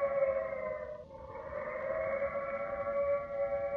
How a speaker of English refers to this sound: The siren is a musician of no value, knowing only one tune, which each time played is a disturbance of the peace.